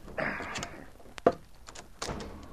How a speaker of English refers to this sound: The two men left their sleeping quarters and walked through the store. Leif unbarred the front door.